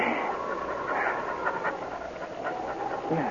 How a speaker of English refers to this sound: It was a panting but triumphant dog who lay 5 minutes later at his master's feet,